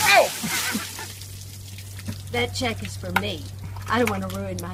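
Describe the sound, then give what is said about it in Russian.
A brief rush of ice water poured by his wife over the head of seated former US President George W. Bush, splashing down at the start, a loud hissing burst that fades quickly, followed by people talking with scattered faint clatter in the background. “На видео он сидит, а его жена льет ледяную воду ему на голову.”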